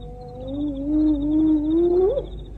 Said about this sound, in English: Oh, hyena. No meal for you tonight, friend.